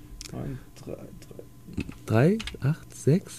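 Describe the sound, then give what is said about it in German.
A phone number with the Ulm area code being tapped in on a phone to call a radio station: several short, soft key clicks at an uneven pace, with brief bursts of voices speaking over the taps. “Naja, ich lasse ihn mal tippen.”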